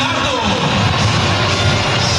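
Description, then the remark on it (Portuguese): A stadium crowd gives steady, dense applause as the tricolor team's players are announced on the big screen, with a few faint boos from a small number of people mixed into the continuous roar and scattered shouts throughout. “Também tem um pouquinho de vaia, baixinho, mas tem, pouca gente. Maior parte são de aplausos.”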